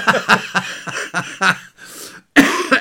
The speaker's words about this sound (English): I'm on the process, or in the process, of getting another cough again, I think.